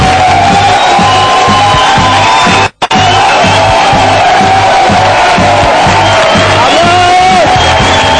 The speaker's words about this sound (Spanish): Ha llegado el momento de la actuación estelar de la noche. Señoras, señores, pido un fortísimo aplauso para ….